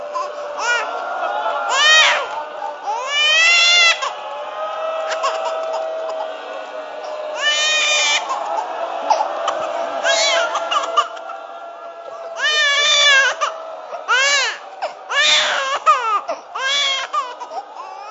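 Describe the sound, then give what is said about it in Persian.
A baby cries in repeated wailing bursts, loud and close, with short breaks between them and some fussy, babbling sounds mixed in across the whole stretch. “روزه امشب صدای همین بچه است.”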